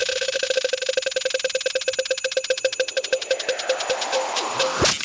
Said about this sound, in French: La roue de Noël, je vais la lancer, tu vas crier stop pour l'arrêter. Et on va surtout voir sur quoi elle s'arrête. Stop.